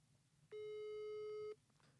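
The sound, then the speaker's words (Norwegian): A single steady ringback tone from an outgoing phone call that goes unanswered, lasting about a second, mid-pitched and slightly buzzy, sounding clearly over a low background hum with no one speaking. “Vi skal prøve å ringe Espen.”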